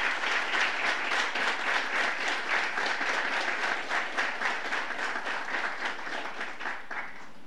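A crowd applauds steadily with dense, continuous clapping that stays loud throughout before easing slightly at the end. No one speaks over it.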